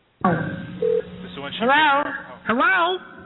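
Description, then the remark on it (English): A phone call being placed on a WBCR radio show to call a woman back: a brief electronic dialing tone beeps over a thin, tinny telephone line, followed by a voice coming through the receiver. “yourselves up to be like, all right, let's call her back. Let's do this.”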